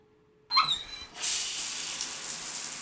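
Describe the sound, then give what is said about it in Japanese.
A faucet squeaks open and water starts gushing out in a steady, hissing stream, fairly loud, continuously rinsing off shampoo foam, with no talking. “今、泡を流しちゃいますからね。”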